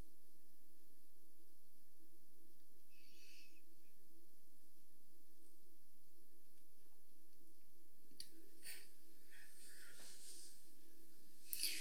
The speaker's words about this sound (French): Nous allons faire une respiration profonde.